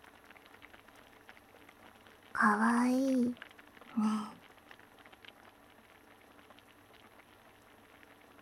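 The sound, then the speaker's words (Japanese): A hot pot (nabe) simmers steadily on the stove, a soft, continuous bubbling and light crackle, briefly joined by a short spoken phrase from a voice partway through. “あ、鍋、いい感じ。”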